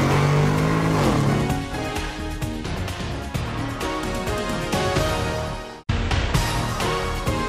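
A car engine revs loudly as the car is put into first gear and accelerates, its pitch climbing steadily, then cuts out for an instant, as if shifting gear, before roaring on. No voices.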